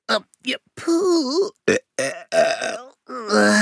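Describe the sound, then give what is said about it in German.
A string of burps voiced by a person playing an owl that has just eaten chocolate cookies: short croaky gulps, then longer, wobbling, drawn-out belches that rise and fall in pitch, fairly loud and with no other talk. “Mein Bäuchlein meldet sich schon wieder.”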